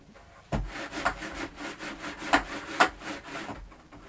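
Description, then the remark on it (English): An eraser rubs back and forth across paper in quick, uneven scrubbing strokes, a soft dry rasping with a few sharper bursts, heard on its own without talking. “I know, it's all rubbed out, isn't it?”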